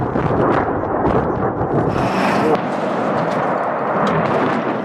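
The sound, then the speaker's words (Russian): A loud, continuous roar of a fire at large weapons depots near Kharkiv, Ukraine, at night, with rumbling detonations of shells and rockets, and a sharper blast bursting out about halfway through before the heavy rumble carries on. “Пожар и детонация.”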